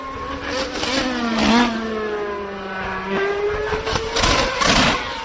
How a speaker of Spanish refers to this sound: Ahí están los 2, Mercedes y Red Bull. Bueno, no sé si os habéis dado mucho empacho de sonido de coches